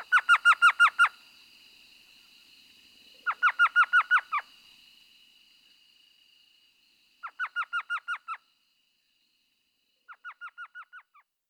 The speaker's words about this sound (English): But spring comes early to the desert, and the minuscule owls return by late February or March, ready to begin their breeding season.